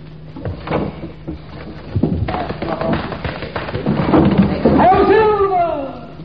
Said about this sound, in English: Just lift the window up.